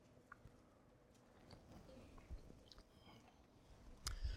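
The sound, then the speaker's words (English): A preacher takes a quiet sip of a drink during a sermon, with soft slurping, swallowing and small mouth clicks, followed by a brief clunk near the end. No one talks. “Got to wet my whistle a little bit.”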